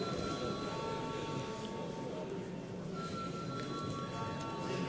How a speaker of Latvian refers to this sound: Lūdzu, zvanu.